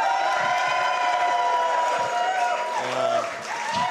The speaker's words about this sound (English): can I get a big cheer now?